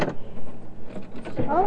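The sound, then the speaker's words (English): A car being started with a key: brief mechanical rattling and clicks, then a rising motorized whine near the end, moderately loud. “We'll turn off our blinker lights and put the key in. Start the car.”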